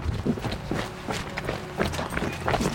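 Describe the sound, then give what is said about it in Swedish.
Steady jogging footsteps thud along at an even pace, about two to three strides per second, as a person jogs from a crime scene toward a home to test how long the run takes; moderately loud against a faint background hiss. “Men jogga lite då.”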